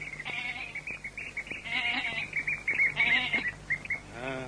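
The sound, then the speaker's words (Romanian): A goat led on a rope bleats several times in wavering, quavering calls in the early morning, while small birds chirp steadily in the background throughout. “Vine unul cu o capră de funii.”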